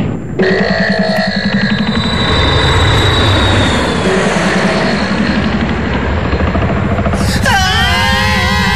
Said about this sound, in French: fais chauffer l'avion. Ouais. Nous partons pour Stockholm.